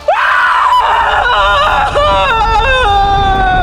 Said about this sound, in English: Queen Schomburg's scream shook the whole world, and it threatened to send it spinning from its course about the sun.